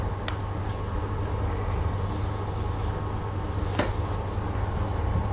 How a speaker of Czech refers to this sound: U výjezdu na hlavní silnici je provoz. Autobusy řvou